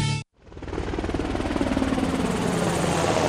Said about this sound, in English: The Navy Seahawk helicopter has a lift capacity of over 6,000 pounds.